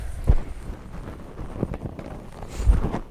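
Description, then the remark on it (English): An imitation of horse hooves clopping: a few hollow, knocking thumps spaced unevenly over a few seconds, with no talking over them. “He can sound like horse feet. Clop, clop, clop.”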